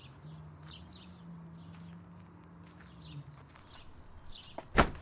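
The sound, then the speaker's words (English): An old, rotting door at an abandoned burial place with stone shelves creaks in a low, drawn-out groan for a few seconds, then ends in a sharp wooden thud, while birds chirp faintly in the background. “The door's still here. Barely. Old. Rotting.”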